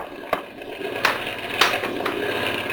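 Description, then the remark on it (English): A boat motor sputters and starts to die, a steady mechanical rumble broken by four irregular, sharp pops and coughs. No one speaks. “Even boat motors can't take it. They start to die.”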